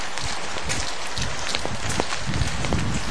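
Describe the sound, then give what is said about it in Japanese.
Steady, heavy rain pours down outdoors with some wind on a cold morning, a dense hiss of countless drops with scattered sharper spatters, continuous and fairly loud with no voices, heard on the way to an airsoft field in Chiba, Japan. “そっちと見事な雨です。割と風もある。”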